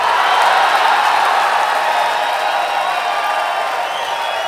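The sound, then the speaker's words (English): A large audience in Atlanta applauds the introduction of Elvin Bad Boy Bishop at a live recording, a dense, steady wash of clapping with crowd noise that holds loud throughout and eases slightly toward the end, with no one speaking. “Let's give a big Atlanta round of applause to the one, the only, Elvin Bad Boy Bishop.”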